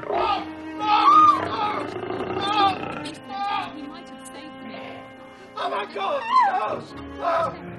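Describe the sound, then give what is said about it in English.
A lion, Sahara King, roars and snarls as it attacks a man, loud and ragged, in two heavy bursts separated by a short, quieter lull in the middle. “When I saw him turn, the lion met in my face.”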